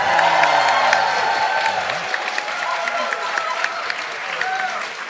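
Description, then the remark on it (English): A live studio audience at the Linda Norris Auditorium applauds steadily and loudly for about five seconds during a morning show, dense clapping mixed with whoops and cheering voices rising over the noise. “But first, to prove it's live, let us hear from this great crowd.”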